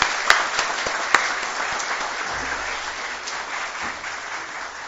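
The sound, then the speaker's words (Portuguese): A crowd applauds steadily at a tribute ceremony after a sung homage, before the presentation of the Mensageiro da Paz medal, a dense wash of many hands clapping together at moderate volume, with a few sharper claps standing out near the start before the ovation settles and holds. “Um aplauso.”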